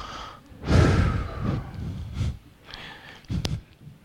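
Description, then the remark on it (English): A voice imitates the snoring of someone fallen asleep in a prayer meeting: a long, breathy rasping inhale followed by a few rougher snorting breaths and a short sharp snort near the end, with no words spoken. “Have you ever heard those little dulcet tones of somebody going?”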